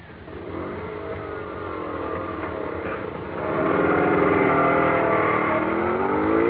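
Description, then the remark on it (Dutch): A scooter's small motor engine runs with a buzzing hum, then revs up louder partway through and holds at a higher, steady whine. Nobody speaks. “Ja, hij gaat naar die scooter.”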